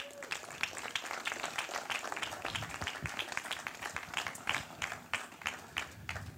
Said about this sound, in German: Dann auf. Applaus bitte.